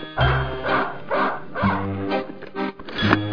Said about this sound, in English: This is a dog.